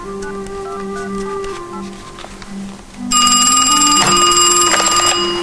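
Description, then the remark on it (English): A cordless phone hums with steady electronic tones and faint clicks as a number is dialed, then a loud, bright, buzzing electronic ring bursts in and continues to the end, with no one speaking. “Zeb looks at the cordless and dials.”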